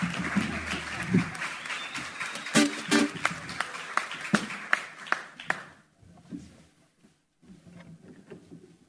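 An audience at a live band performance applauds with dense, overlapping claps for about six seconds before the clapping thins out and fades, leaving scattered claps and faint murmuring.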